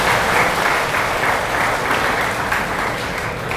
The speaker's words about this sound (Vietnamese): Cho một tràng pháo tay thật lớn nè.